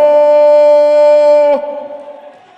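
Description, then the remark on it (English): A loud metallic bell rings to start a wrestling match, with a bright sustained tone, then a sharp clank cuts it off and the ringing fades quickly. No one speaks. “That is the bell.”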